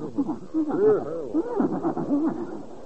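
A horse whinnies in a long, quavering series of rising and falling neighs lasting about three seconds, fairly loud, with a thin, muffled tone and no talking over it.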